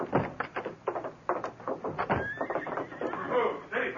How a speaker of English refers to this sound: A big white stallion coming down the slope toward the gates. But nobody's in the saddle. Well, the guard's stopping him at the gate.